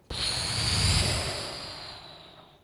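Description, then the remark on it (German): A teacher in a German lesson for children imitates sea waves with one long, breathy whooshing hiss that starts abruptly, swells, then slowly fades away over a couple of seconds, with no talking. “Ah, genau, Wellen.”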